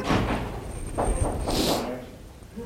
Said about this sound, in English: Close that door and knock.